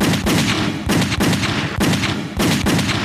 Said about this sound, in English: Cutter's gun erupted.